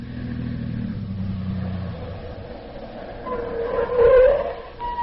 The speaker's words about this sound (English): That must be Dr. Christian's car now.